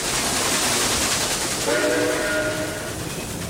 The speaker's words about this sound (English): So you'd have things like a train going by from left to right. There was actually an album called …, these stereo recordings of trains that would, you know, sound to people like a train was bearing down on them when they'd hear it.